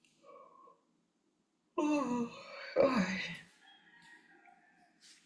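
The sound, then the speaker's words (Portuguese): A single drawn-out yawn from a woman, voiced and breathy, starting strong and trailing off into a sighing exhale, with faint quiet sounds before and after. “Devo estar muito cansada esses dias, estou bocejando tanto.”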